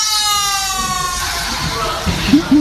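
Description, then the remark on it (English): A loud, buzzy squeal of air rushing out of a balloon-animal balloon released by a kid in a silent library, wavering and slowly sinking in pitch for about a second before breaking into a ragged, sputtering hiss. “And it's just a silent library, and a kid smiles at the camera and releases the balloon in a silent library.”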